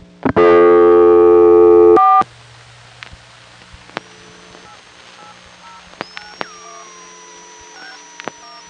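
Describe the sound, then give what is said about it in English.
A loud steady phone tone opens after a 4 is dialed, then faint touch-tone beeps of other customers dialing, heard as crosstalk through an electronic telephone switch, sound in scattered short bursts over a quiet, hissy telephone line, with a thin whining tone drifting underneath. No one speaks. “The touch tones you heard in the background were other customers.”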